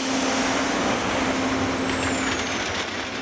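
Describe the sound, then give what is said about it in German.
A heavy yellow track-laying train, nicknamed the Büffel, moves slowly across a plain in shimmering heat, tearing out old rails and sleepers and laying new ones, rumbling with a steady low drone while a loud, continuous air-brake hiss fills the whole stretch, a thin high whine sliding slowly downward above it. “Langsam schiebt sich der Büffel durch die Ebene. Die Luft flimmert vor Hitze. Das Ungetüm schnaubt.”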